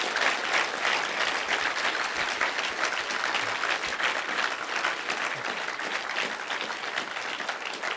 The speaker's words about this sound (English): Will you guys give him one more round of applause as we...